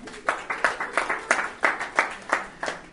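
A short burst of steady, rhythmic clapping from an audience, with about nine evenly spaced, crisp claps over a few seconds and no voices.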